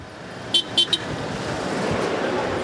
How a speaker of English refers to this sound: I beep my horn a few times, and the guy raises his hand in the air.